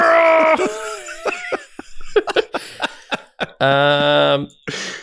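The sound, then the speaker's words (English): Someone screams loudly and very close to the microphone in two sustained bursts, with choppy breathy gasps and short vocal noises in between. “Just screaming into the mic.”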